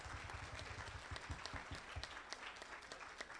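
An audience applauds people who work for or are retired from the state of Maryland, dense overlapping claps forming a loud, continuous wash of sound with no voices standing out.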